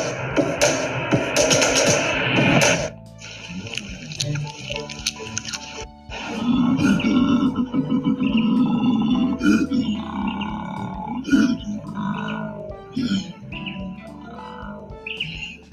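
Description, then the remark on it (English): A koala growls in deep, rasping, belch-like grunts that come in rough bursts and surge loudest midway, while birds chirp and tweet throughout, with brief pauses between the louder stretches. “What was that koala saying? Well, that growling was like, it was kind of a mix.”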